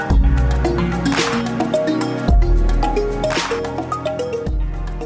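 Soft instrumental music with steady bass and sustained melodic notes, with two broad swelling washes like ocean waves rising and fading beneath it. No voices.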